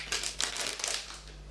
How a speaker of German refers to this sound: Ich muss erst mal gucken, wie ich das hier aufbekomme. Es ist irgendwie eine etwas festere Haribo-Tüte vom Geräusch